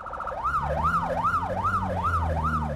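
A Johannesburg Metro Police siren in South Africa wails in a rapid rising-and-falling sweep, repeating steadily over low engine rumble, loud as the police vehicle rushes past on its way to a car crash scene.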